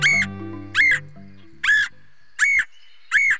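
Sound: red-headed woodpecker calls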